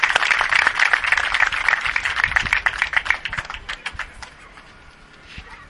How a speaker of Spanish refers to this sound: y ella no es otra que nuestra alcaldesa, Conchi, y me gustaría darle un fuerte aplauso porque gracias a ella, pues Lebo está creciendo poco a poco más.